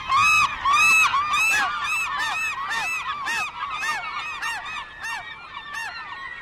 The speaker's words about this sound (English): I could hear the frenzy in their calls as they competed for the food, and so apparently could other gulls, who detoured from their flight line to join the melee. These cries rang like dinner bells to the other gulls.